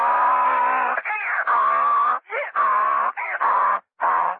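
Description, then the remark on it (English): A white burro walking in through swinging doors toward a bar brays loudly, with a run of harsh, nasal honks alternating with short wheezing gasps in a steady see-saw rhythm, heard on its own with no talking. “A burra walking straight in through the swinging doors.”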